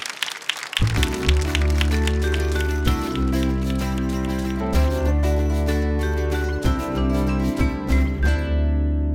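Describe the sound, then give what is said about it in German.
Steady applause from an audience at the ARD and ZDF stage of the Leipzig Book Fair, clapping for an author after a talk about her novel, a dense stream of sharp claps that goes on for several seconds, with a low sustained tone underneath before the clapping fades out at the end. “Und sie dürfen jetzt mit beiden Händen klatschen”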